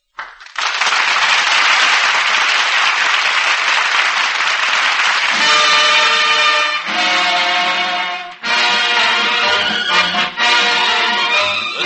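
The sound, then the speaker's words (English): Loud, dense applause from a large studio audience at the Command Performance radio broadcast fills the first several seconds, then a band starts playing and the clapping continues under the music until the end. “Cutting the final jive right down to a nub, the good word is thanks from the crowd here at home.”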